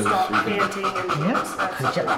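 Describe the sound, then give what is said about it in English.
A female dog pants rapidly and steadily while her trainers grade her performance, quick rhythmic breaths repeating several times a second, with a faint voice murmuring in the background. “You can hear the difference in her breathing pattern.”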